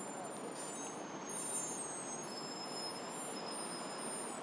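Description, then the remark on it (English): Steady engine rumble of a bus interior with thin, high-pitched squeaks and whines drifting in and out over the noise, continuous, with no talking. “It's a very squeaky bus.”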